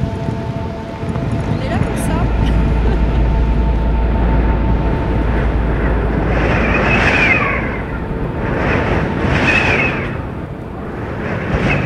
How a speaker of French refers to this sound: Le vent de face avec la pluie, c'est génial. On change des conditions de tempête, on se les attrape.